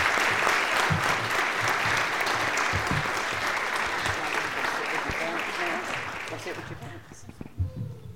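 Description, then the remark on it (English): At a church service, a crowd applauds steadily for their hard work, the dense clapping going on for several seconds before thinning out and fading toward the end, with a few murmuring voices underneath. “big round of applause again for their hard work.”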